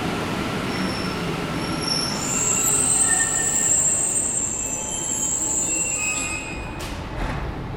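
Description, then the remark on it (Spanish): A metro train rolls into Los Leones metro station with piercing, sustained high-pitched wheel squeals reaching 96 decibels over a steady low rumble, loud, easing off near the end as the train slows. “84 decibeles y los chirridos llegaron a 96 decibeles.”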